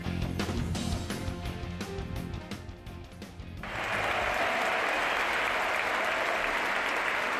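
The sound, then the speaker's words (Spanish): A large stadium crowd at the Caja Mágica in Madrid gives a sustained ovation to tennis player David Ferrer at his farewell, after his loss to Alexander Zverev: dense clapping that swells after a few seconds into a louder, steady roar of applause and cheering. “El valenciano caía ante el actual campeón del torneo, Alexander Zverev, y esta fue la ovación que se llevó.”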